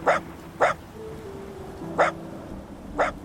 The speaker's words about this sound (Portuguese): Mas eles não me entendem. Eu só sei latir.